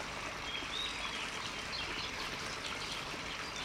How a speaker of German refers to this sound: Das ist der Tönnessteiner Bach und er fließt durch ein tiefes Tal, fast schon eine Schlucht, mit hohen Felswänden zu beiden Seiten.